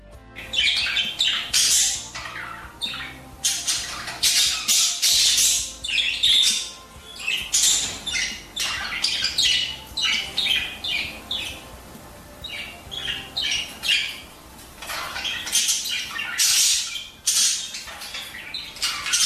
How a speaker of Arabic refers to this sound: طائر البدجي، هذا نعم. هو صوته. هذه طيور حتى مش طائر. طيور صحيح. طائر البدجي هو أحد أجمل الطيور، وخاصة طيور الزينة والأكثر شهرة وانتشارا.